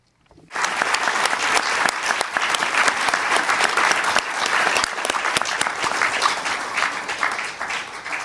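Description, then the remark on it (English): A sustained round of applause from an audience at a United Nations Permanent Forum session, honoring a departing Secretariat staff member, bursts in after a brief pause and holds steady, dense and fairly loud, with many hands clapping at once before easing slightly toward the end. “I'd like to thank you all for that round of applause for Elsa”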